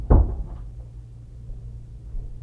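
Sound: door being closed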